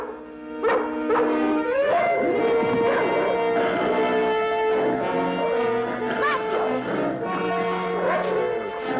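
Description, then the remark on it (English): A dog barks and yips repeatedly over nine seconds, loud, with whimpering tones mixed in over a dense, sustained harmonic background. “I saw you take a shot at that dog.”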